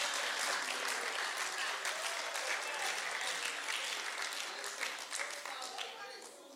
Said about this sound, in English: You have come far. Clap for yourself. You have come far.